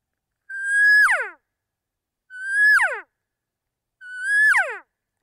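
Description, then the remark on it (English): A person makes a simple two-part cow call three times with a latex call, evenly spaced: each is a steady, nasal tone that breaks into a sharp downward slide, fairly loud with no other sounds between. “So you can hear it's a really simple two-part sound to make a cow sound, just a simple cow call.”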